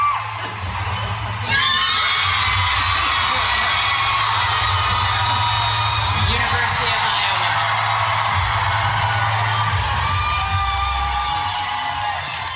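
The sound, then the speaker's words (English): A recording of a large crowd cheering and roaring loudly, one of three recorded crowd cheers played for guessing a news story. The noise swells up sharply after a brief lull and holds steady, thick with shouts, whoops and high-pitched yells throughout. “I want you to have a listen to this trio of cheers and see if you can guess the news story.”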